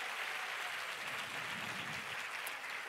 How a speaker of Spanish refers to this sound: ¿Alguien puede dar un mejor aplauso al Señor?